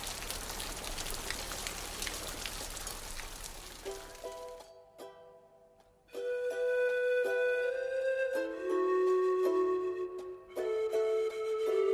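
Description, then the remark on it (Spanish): Steady, dense afternoon rain hisses for about four seconds, then fades out as soft, sustained music with held tones takes over for the rest. “Llovió toda la tarde.”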